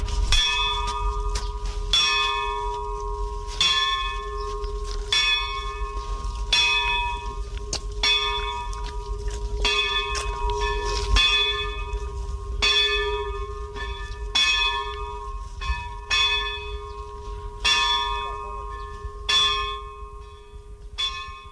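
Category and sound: signal or alarm, bell ringing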